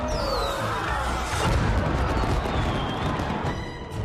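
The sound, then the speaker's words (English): Fireworks burst in the night sky in a dense, continuous barrage, with whistling streaks gliding overhead and sharp bangs and crackles piling up loudly throughout; no voices. “Vibrant fireworks burst in the night sky.”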